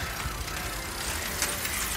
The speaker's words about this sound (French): j'ai une feuille d'arbre dans mon frein, ça m'emmerde, ça fait du bruit.